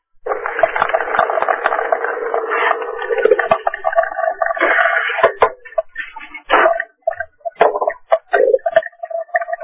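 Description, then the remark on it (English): Steady rushing of running water, heard as background noise on a phone line, muffled and phone-like, fills the first few seconds, then breaks into choppy, garbled fragments that cut in and out. “Somebody's got running water.”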